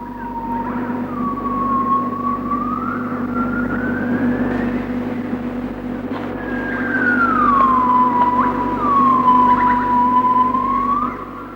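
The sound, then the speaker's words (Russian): A gibbon call recorded in the jungle: long, sweeping whoops that rise and fall in pitch, repeating several times over a steady low hum, with no talking. “Крик гиббона.”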